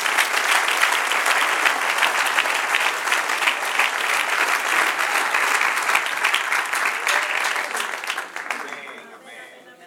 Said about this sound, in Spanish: Denle un aplauso al Señor de la gloria.